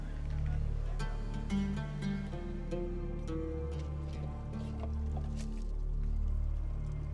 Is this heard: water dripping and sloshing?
yes